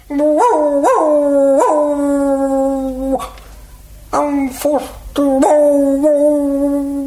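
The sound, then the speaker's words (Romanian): A small dog howls and whimpers, giving a series of drawn-out, high, wavering cries with brief pauses between them, and a voice briefly speaks in one gap. “mirosindu-se cu o cățelușă care mergea în urma doamnelor.”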